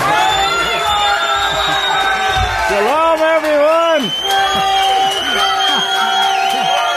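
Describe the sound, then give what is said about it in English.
A large crowd at a religious gathering cheers and whoops loudly and steadily as a teacher is introduced, with high rising yells and shouts overlapping throughout, while a man's voice briefly speaks a greeting through the din. “Wow, what a beautiful crowd. Look at this, Yahweh.”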